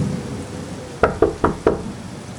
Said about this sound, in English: He approaches the home of the famous podcaster, Jim Harold. He does so with trepidation, not because of fear, but with the odd, inspired feelings of meeting the man who coined the phrase, "Stay spooky." He knocks on the door.